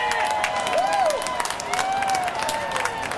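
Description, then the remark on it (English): A large crowd of Trump supporters outside the arena cheers and claps continuously as they watch him be nominated on a big TV screen, with whoops and shouts rising above a dense wash of applause and voices. “And those last sounds, Trump supporters outside the arena cheering as they watch him be nominated on a big TV screen.”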